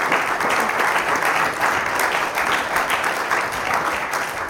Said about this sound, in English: Give me a round of applause one more time for them.